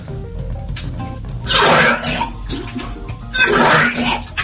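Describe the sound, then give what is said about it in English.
Someone vomits into a toilet: two loud, gurgling heaves roughly two seconds apart, each with a burst of splashing water, over a low background rumble. “What the hell were you puking up? It sounds like you were, like, puking up bowling balls or something. Amount of splashing going on.”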